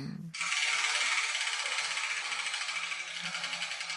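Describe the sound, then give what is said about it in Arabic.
A steady, dense mechanical rattling clatters on without pause for several seconds as a prize wheel is turned with small balls tumbling inside, to see which ball drops out and shows the letter of the day; fairly loud and even throughout. “إذن ابدأي بتحريك الدولاب ولنرى أي كرة تسقط منه.”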